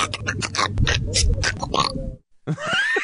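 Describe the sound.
A man's voice makes a rapid string of guttural grunts, snorts and pig-like noises, pauses briefly, then lets out a high, squawky rising squeal. These are loud vocal sound effects spliced together into a montage.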